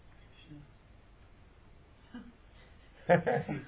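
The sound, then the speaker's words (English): After a few quiet seconds, a person gives a short, loud mooing call, imitating a Surabhi cow in one brief burst that breaks into two parts. “You know what sound Surabhi cows make?”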